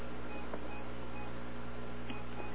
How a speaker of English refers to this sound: I don't know if you're hearing the beeping going on in the background. Something's going on with that doggone printer of mine ever since we had that storm. We'll just ignore it.